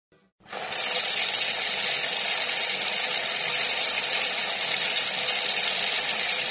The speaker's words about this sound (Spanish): Qué sucio está saliendo el agua otra vez.